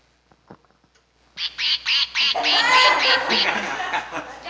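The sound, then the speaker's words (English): Soft clicks give way to loud duck quacking: a few rhythmic nasal quacks first, then many overlapping into a busy, flock-like chatter that continues to the end. “They give flocks of ducks to people.”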